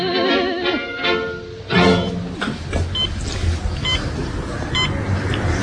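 An electronic device called the James, which runs music, TV, video and hi-fi and is controlled with the head, beeps several times, short high-pitched tones spaced about a second apart, over a busy, cluttered background that opens with a wavering, tuneful tone.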